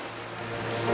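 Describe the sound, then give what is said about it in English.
Steady rushing wash of ocean waves in the middle of the ocean, broad and continuous, swelling slightly louder toward the end, with a low droning hum underneath. “200 verses later, and here I am in the middle of the ocean.”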